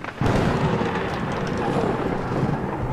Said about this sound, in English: As another bolt of lightning hits your boat.